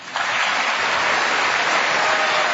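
Sustained applause from a large audience following Netanyahu's statement that Israel will stand, a dense steady wash of clapping that starts abruptly and holds at a loud, even level throughout.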